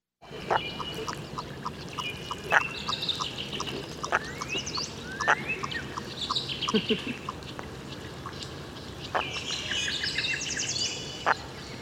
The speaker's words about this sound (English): Ah, and so now we've got a wonderful duck here. It's called what, a common merganser? Am I pronouncing it right? That's right. It's a merganser, huh? Merganser. Okay, so here we go. Here's what this sounds like.